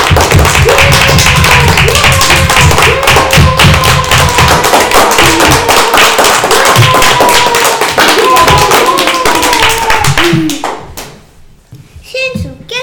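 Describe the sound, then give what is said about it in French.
Audience applause after children sing Jingle Bells: dense, steady clapping from many hands for about ten seconds, with high children's voices calling over it, before the clapping quickly dies away into a few scattered sounds. “C'était super, vous pouvez applaudir.”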